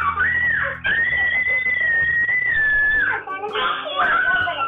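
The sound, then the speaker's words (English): A person imitates a crow's caw with three loud, drawn-out, nasal calls. The first is short, the second stretches for about two seconds, and the third rises again. “You make a good crow caw. Can I hear that?”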